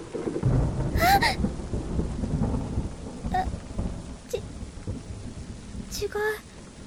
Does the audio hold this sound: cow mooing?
no